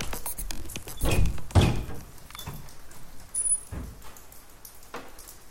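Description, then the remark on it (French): A window onto the street is pushed open with a few dull thunks and a sliding scrape, followed by faint outdoor ambience and a high brief squeak. “J'ouvre la fenêtre.”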